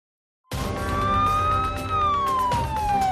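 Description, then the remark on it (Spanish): A police car siren wails loudly, its tone sliding slowly up and then down over a few seconds, with a low rumble of traffic beneath and no voices. “Una de la tarde, 11 minutos, suenan las sirenas, como cada semana, como cada lunes, la policía no descansa.”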